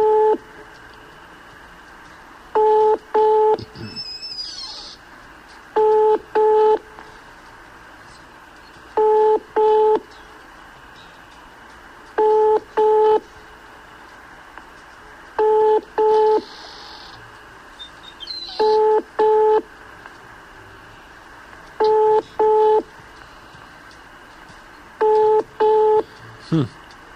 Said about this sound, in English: Flashing her again. Well, I mean, it's ringing. Well, just to tell her we're going to try later or something. Let's give it three more of those funny rings.